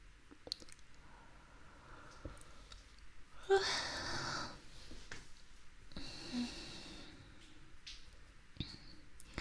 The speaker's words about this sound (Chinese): 看着你这睡眼朦胧的样子，给我也看困了，连着打了好几个哈欠了。